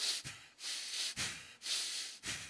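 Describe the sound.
A voice imitates heavy, angry breathing: several forceful, noisy in-and-out breaths in a steady rhythm, fairly loud, with no talking.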